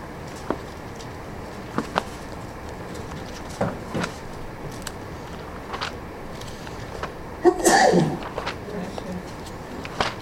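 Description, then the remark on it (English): A single sharp sneeze bursts out partway through a Bible study talk, surrounded by quiet background hiss and a few faint clicks and taps. “Bless you.”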